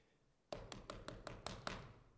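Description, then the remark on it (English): Seven quick knocks on a door in Jerusalem, in a steady, even rhythm, fairly loud, with a faint hum continuing briefly after the last rap. “It says, as soon as their eyes were open and they realized it was Jesus, it says, that very same hour, they went all the way back 7 miles to Jerusalem, knocking on the door.”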